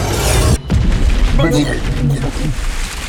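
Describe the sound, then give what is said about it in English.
A loud booming blast of a bolt of energy hurled at a dwarf, with a brief cutoff, then a rush of heavy, rumbling, splashing noise as he is sent flying into the water, churning on for a few seconds, with faint vocal sounds mixed in. “Reaching deep into my inner core, I activated my Brahman Shakti and hurled a bolt of energy at the dwarf, sending him flying into the water.”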